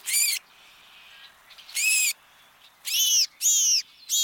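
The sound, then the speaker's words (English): A house finch sings in short, high, bright bursts, five in all, spaced unevenly with brief pauses between them. The sound is clear, with faint background hiss and no talking. “Although the American crow may seem rather blasé about pillaging another bird's nest, like that of this house finch.”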